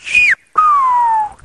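A loud human whistle of a name in Silbo Gomero, a whistled language, in two parts: a short high note that dips at the end, a brief pause, then a longer lower tone gliding slowly downward, like a whistled word.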